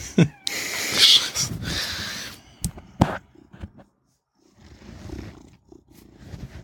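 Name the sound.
cat purring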